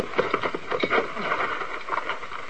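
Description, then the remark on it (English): Horses shuffle and stamp in place, a scatter of uneven hoof thuds and rustling movement with no steady rhythm, as two riders climb down. “You, both, get off horse.”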